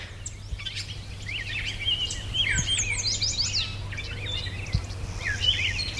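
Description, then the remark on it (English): Starlings keep up a busy chorus of squealy whistles and grunty, scratchy calls, overlapping in quick bursts against a low steady hum, with a few other birds faintly behind. “The sort of squealy sounds are squealy, grunty sounds are starlings.”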